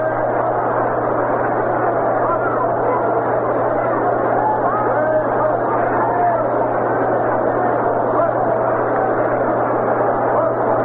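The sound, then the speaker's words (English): A steady, continuous murmur of a baseball crowd, smaller than on the previous two nights, at a game where Tigers pitchers face Roger Maris; many overlapping voices blend into an even wash of chatter for the whole stretch, with a constant low hum underneath. “This will not be quite as large a crowd as the previous two nights.”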